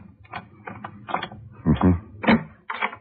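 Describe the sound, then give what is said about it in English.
A key rattles and scrapes in a hotel room door lock, followed by a few sharp metallic clicks and clunks as the lock turns, in irregular bursts over a low background hum. “I got keys here for all kinds of locks. Here, try a couple of these.”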